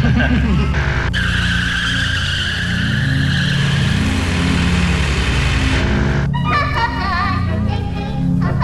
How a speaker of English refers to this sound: Everybody wants to rev their engine.